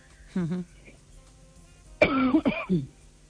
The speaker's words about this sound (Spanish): y también me estresa que me da la tos cuando estoy hablando contigo. Bueno, esas cosas ocurren, pero es por la postura posiblemente y por falta de hidratación, pero se puede solucionar, no hay ningún problema.